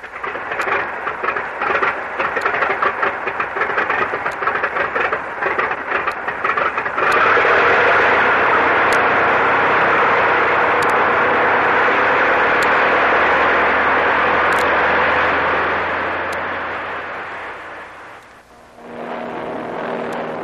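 An airplane engine starts with a rough, pulsing sputter, then swells into a loud, steady drone that holds for several seconds before fading away, as the plane flies over the area where a storm struck the Manila Merchant. No voices are heard.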